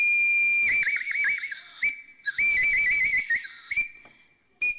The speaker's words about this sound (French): ce type de sifflets-là, ils sont fabriqués par les hommes de la préhistoire, à peu près même période, et ils sont en os